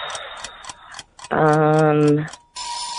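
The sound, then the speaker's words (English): A quiz countdown timer ticks in quick, even beats for about a second, then a loud, harsh buzzer blares steadily before cutting off. No one speaks. “Oh, there's the timer on that word. There's the buzzer on that one.”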